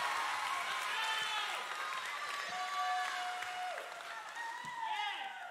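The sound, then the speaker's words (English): A large audience claps steadily and loudly for several seconds to welcome a speaker, with scattered whoops and cheers rising above the dense applause, which holds strong throughout. “So I want you to give a warm welcome and a round of applause”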